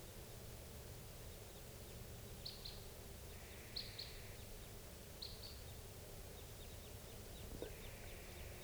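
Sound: crossbills calling in flight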